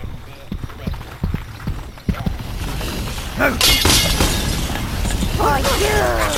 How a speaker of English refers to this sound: Fragile piece was shattered.